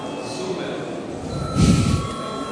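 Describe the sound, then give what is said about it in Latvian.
A parliament session bell in the Latvian Saeima rings continuously for a couple of seconds to call a recess, a steady buzzing, metallic tone that swells louder briefly toward the end, with a faint murmur of voices underneath. “Saskaņā ar kārtības rulums ir laiks iet pārtraukumā. Lūdzu zvanu.”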